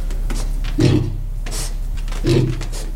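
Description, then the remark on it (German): A pig grunts twice, each a short, low, rough burst about a second and a half apart, over a steady low background hum with no talking. “Damit kann man quasi das Grunzen von den Schweinen deuten.”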